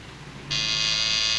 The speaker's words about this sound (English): He presses the room buzzer.